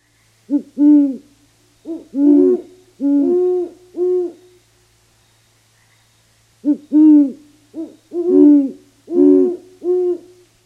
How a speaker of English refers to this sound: And if you were outside and listening earlier in February, you've heard some of the great horned owls that just don't wait for true spring to start before finding mates and laying eggs. Here's a pair duetting.